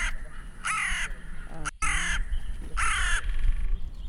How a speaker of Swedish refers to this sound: fick bland annat gissa på ljudet från en rödlistad art, kråkan. Att gissa rätt var svårare än de trodde. Det är en kråka.